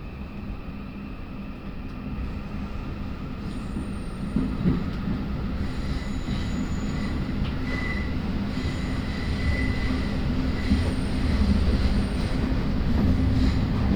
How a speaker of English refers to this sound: This train terminates at Moorgate. The next station is Essex Road.